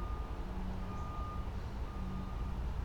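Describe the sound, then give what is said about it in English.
A city truck with flashing blue and yellow lights sounds its reversing beeper at a steady pitch over a constant low engine rumble and outdoor background noise. No one speaks. “I can see the flashing blue and yellow lights of the city truck.”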